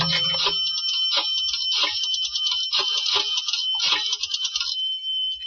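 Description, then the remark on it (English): A telephone call being placed from a phone booth to a police inspector: a steady, bright electronic phone tone with a series of clicking pulses at irregular intervals, fairly loud, with no voices. “I went downstairs into a phone booth and called Inspector Lefevre.”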